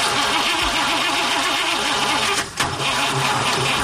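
A car engine cranks over and over in a steady, rhythmic churn, sputtering but never catching and failing to start, with a brief hitch partway through. It's loud, with no voices.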